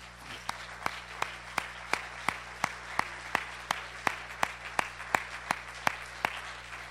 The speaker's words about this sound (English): Would you clap your hands to Him?